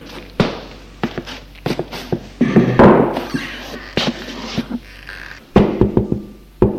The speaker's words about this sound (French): On a frappé à la porte.